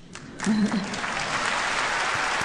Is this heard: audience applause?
yes